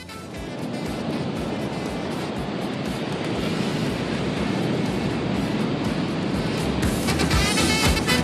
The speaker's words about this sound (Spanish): El mar.